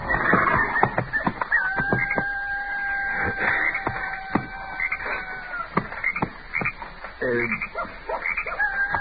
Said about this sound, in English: Miss Kitty sure was right about those coyotes. Every one of them and his brothers out tonight, all yapping their fool heads off.